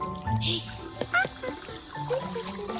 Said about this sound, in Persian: انگار صدای آب میشنوم. نوت من فقط سیفونو کشیدم.